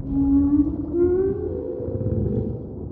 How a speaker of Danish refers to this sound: For hvalen er lyden meget tydelig. Det er nemlig hvalsang. Og hvis der er nogen, der forstår sig på hvalsang, så er det altså hvaler. Det er nemlig deres måde at snakke med hinanden på. Og de kan snakke højt, og de kan snakke længe.